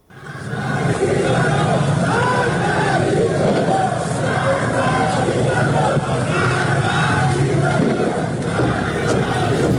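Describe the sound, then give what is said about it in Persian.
A large crowd of protesters in Iran shouts anti-government slogans together during protests over the collapse of the national currency, a dense and loud roar of many voices that holds steady without a break from start to finish. “در برخی از ویدیوهای منتشر شده در شبکه‌های اجتماعی معترضان شعارهای علیه حکومت سر دادند.”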